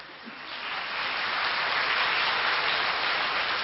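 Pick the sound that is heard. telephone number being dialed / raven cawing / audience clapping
audience clapping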